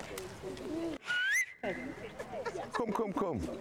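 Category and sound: human body sound, person whistling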